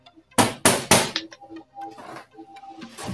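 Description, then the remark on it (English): Three loud, evenly spaced knocks by a woman on an empty box land in quick succession, followed by softer clattering and rustling sounds as the box is handled. “She knocked on it again.”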